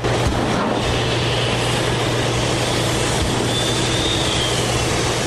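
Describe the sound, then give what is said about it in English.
Giant machines inside the huge ore processing building run by Cliffs at the Tilden mine roar steadily, a loud continuous rumble and rattle with a low droning hum underneath and a faint high whistle rising briefly partway through. No voices. “Inside that hot, dirty, and deafening building, giant machines rumble, rattle, and whistle.”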